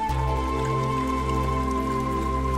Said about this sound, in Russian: Двор, дождь, 3 часа ночи.